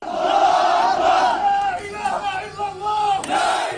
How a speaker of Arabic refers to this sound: هتافات ودعوات للرد، خيار وحيد يرى فيه الفلسطينيون سبيلا لردع الاحتلال ووقف نزيف الدم، فمن أمن العقاب أساء الأدب.